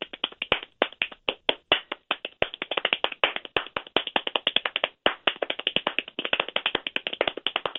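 Rapid hand clapping runs nonstop for several seconds, a dense stream of sharp, crisp claps at a quick, slightly uneven pace with no voices.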